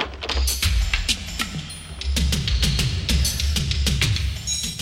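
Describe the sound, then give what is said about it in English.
Tense, suspenseful music built on steady electronic drum-pad hits, repeating in a driving rhythm over a low, rumbling bass drone, loud, with no voices. “Danger music. Wow, drum pads of danger.”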